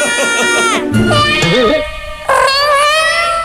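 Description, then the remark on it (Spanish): A cat meows loudly, a few drawn-out, wavering cries with sliding pitch, one after another with a brief pause before the last long meow. “¡Mi gato! ¡Tengo que darle la noticia!”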